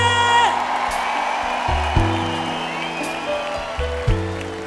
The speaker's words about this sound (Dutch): En een groot applaus voor alle dansers en danseressen onder leiding van Vincent Vianen.